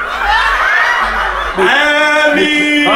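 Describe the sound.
A voice does a short, loud vocal impression with sliding, warbling pitch and cackling bursts, imitating a clucking chicken in a song about farm animals, with no other sounds around it.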